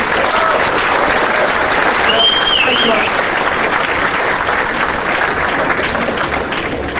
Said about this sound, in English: He's flying in, he's flying out right after this talk. So let's give him a round of applause for zooming in just for us.